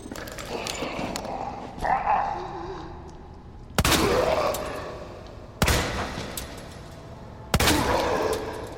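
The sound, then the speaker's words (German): Video game pistol shots from a new handgun called the Broom Hand Cannon, fired at zombies, ring out one at a time, three or four heavy blasts spaced about two seconds apart, each trailing off with a booming echo over a steady background rumble. “Ich hatte das Gefühl, meine neue Broom Hand Cannon oder wie auch immer sie heißt, macht ein bisschen mehr Schaden.”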